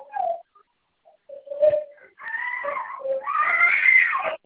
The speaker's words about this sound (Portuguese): Por que está chorando? O que ele quer?